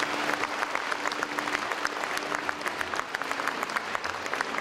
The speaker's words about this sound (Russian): Проводим их аплодисментами, дорогие друзья.